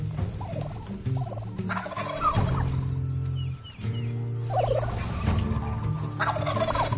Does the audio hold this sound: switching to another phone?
no